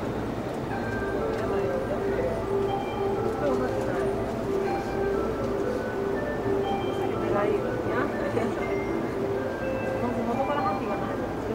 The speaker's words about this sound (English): And there are actually people talking on this train. It doesn't happen often, but it's happening now. I don't know what they're saying.